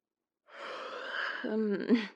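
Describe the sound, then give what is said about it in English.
A single yawn: a long breathy intake that swells, then ends in a brief voiced, falling groan. No talking. “Your yawning is making me yawn.”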